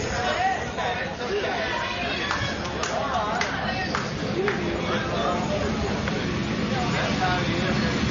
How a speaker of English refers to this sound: And we have train number two. Number two. Yeah, we thought we weren't going to have one, and it took forever to get one, and now we're getting two pretty quick.